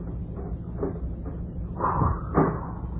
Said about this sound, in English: and then close the door again.